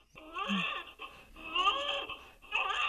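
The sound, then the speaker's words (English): A recording of a newborn baby crying, played by Super Tori, a 40-week gestational newborn simulator mannequin: three strained, high-pitched wails, each breaking off briefly before the next begins, loud with no other voices. “It's a recording, actually, of a newborn crying.”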